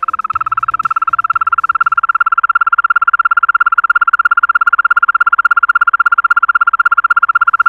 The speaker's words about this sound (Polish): Także myślę, że za chwilę będziecie mogli posłuchać właśnie, jak śpiewa ropucha zielona. Proszę bardzo.